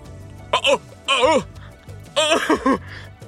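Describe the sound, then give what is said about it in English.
A person vocally mimics harsh coughing and gagging in three short, strained bursts, fairly loud, with throaty, choking tones and no words spoken. “Begins coughing, gagging.”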